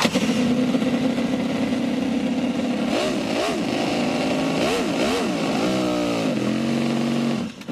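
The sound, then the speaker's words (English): A Connelly 427 miniature four-stroke V8 engine, the smallest production four-stroke V8 in the world, fitted in a car, runs steadily loud from the start, then revs up and down several times in quick bursts before settling back to a busy idle and cutting off. “This is the smallest four-stroke production V8 in the world.”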